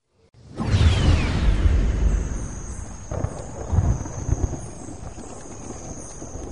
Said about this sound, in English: Icy rain splashed down through the canopy, and thunder rolled like turbojets of gunships passing overhead.